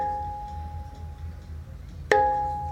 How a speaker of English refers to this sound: Noise vanishes in this cell. The only present sound is that of the leaking water faucet.